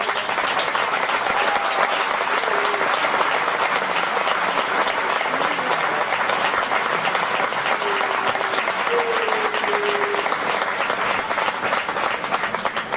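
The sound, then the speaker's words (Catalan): A large crowd applauds loudly and steadily for the Sant Bartomeu 2014 banner bearer, a dense wash of clapping that holds its intensity without letup for the whole stretch, with faint voices or cheers barely poking through. “fort aplaudiment”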